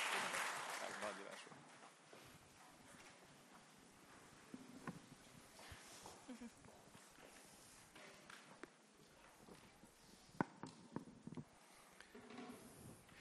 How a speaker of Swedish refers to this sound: Så jag tycker vi att vi ger er en riktigt varm, kärleksladdad applåd. Nej, oikein lämpimät applådit.